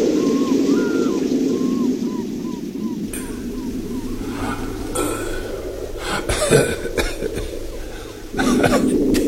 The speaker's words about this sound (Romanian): Vremea asta mă face să tușesc atât de rău.